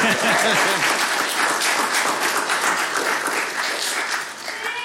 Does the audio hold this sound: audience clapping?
yes